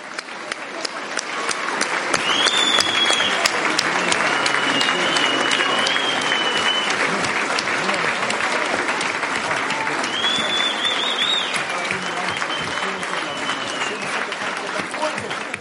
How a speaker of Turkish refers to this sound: Ayağa kalkın erkekler, ayağa kalkın ve kadın dostlarımızı alkışlayın.